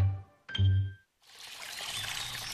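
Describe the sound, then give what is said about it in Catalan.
A couple of short, resonant knocks like a bottle being handled, a brief pause, then Font Agudes mineral water from the Montseny Natural Park pouring steadily in a continuous gurgling rush until the end. “Així sona una bona hidratació. Així sona l'aigua del Parc Natural del Montseny.”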